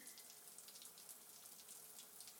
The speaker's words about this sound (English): Here, I'm gonna get in the shower and you just open the door.